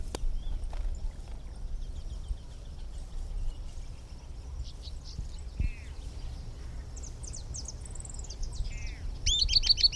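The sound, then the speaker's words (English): An unbanded Camptostoma tyrannulet, one of a pair at a nest and tentatively identified as a Camptostoma species, singing: thin, high-pitched whistled notes and short descending trills, repeated in bursts over a steady low background rumble, with no voices. “Now here are some recordings of the unbanded bird, which is still present and singing.”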